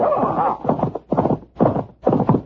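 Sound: horses galloping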